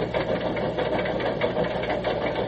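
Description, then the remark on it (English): A steam locomotive pulling away, its steady mechanical rumble carrying faint rhythmic chugging pulses throughout, fairly loud and continuous, with no voices. “Sounds like she's moving.”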